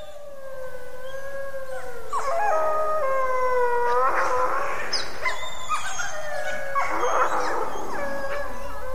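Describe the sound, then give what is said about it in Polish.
Several hungry wolf pups howl and squeal together, their high, wavering cries overlapping and sliding in pitch without pause. The chorus is fairly loud, with no talking. “Te szczenięta piszczą, są głodne.”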